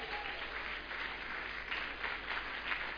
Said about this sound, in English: Come on, give Jesus a big clap this morning.